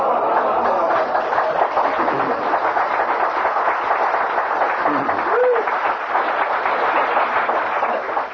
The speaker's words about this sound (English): I don't know why I get applauded for what they did.